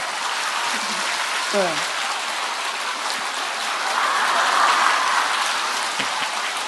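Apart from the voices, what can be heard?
audience applauding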